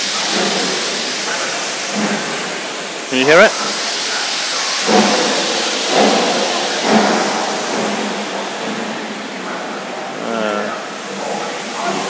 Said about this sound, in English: whoa. It's the steam engine. That's me coughing in the coal smoke. Steam engine is